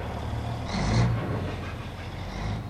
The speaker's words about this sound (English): The Uducton site is in Dutch Harbor, one of America's top fishing ports. The docks are bustling with tractors and other heavy machinery.